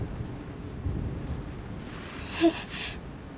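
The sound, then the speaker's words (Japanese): A low, rolling thunder rumble growing closer, a deep continuous roar with a slight swell and a brief crackle near the end, with no voices. “雷が少々苦手なのです。”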